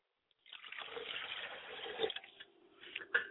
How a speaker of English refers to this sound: I pour libation, I pour a glass of water for my Father's spirit and say, drink well, Father.